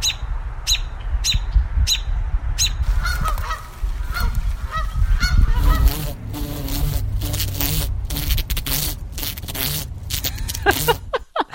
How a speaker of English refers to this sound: we got the angry geese that I disturbed near their nest